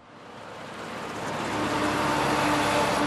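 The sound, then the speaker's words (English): Big blue trucks filled with black boulders race out of a coal mine in Inner Mongolia, China, barreling down the highway to Beijing; broad engine and road rumble swell steadily from moderate to loud over a few seconds, with no voices present. “Big blue trucks filled with black boulders race each other out of a coal mine.”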